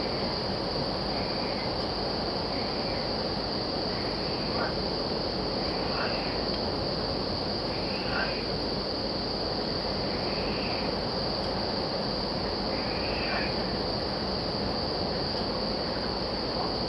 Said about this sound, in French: C'est quand je dis que je vais me coucher que les grenouilles se réveillent.